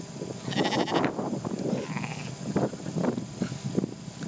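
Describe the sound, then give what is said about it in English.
Several ewes bleat in overlapping, wavering calls, one standing right next to the microphone breathing heavily, with steady outdoor background noise as the wind picks up and no talking. “So we shall leave the sheep.”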